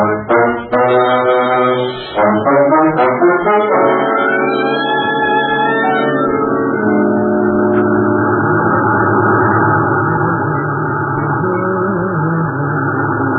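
A car drives along with a loud, steady engine drone that holds throughout, its pitch shifting and revving in the first few seconds before settling into an even hum. No one speaks.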